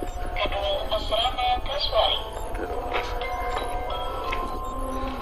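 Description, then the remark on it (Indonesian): A bell rings with bright, sustained metallic tones that shimmer and fade over a steady low rumble, with a few sharper struck accents along the way. “Dan bel ini akan diulang lagi bunyinya.”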